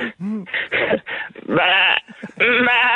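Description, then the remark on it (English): A person imitates a goat on request, letting out a series of loud, quavering bleats, the last two drawn out and wavering, with brief gaps between them. “Yeah, it's sheep or goat, isn't it?”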